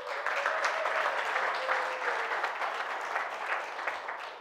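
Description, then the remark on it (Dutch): Steady, warm applause from a crowd, a dense patter of many hands clapping continuously at an even loudness for several seconds, with a faint sustained tone in the background. “Samen met het worship team, dat heet Friends in Worship, zullen ze een hartelijk applaus geven.”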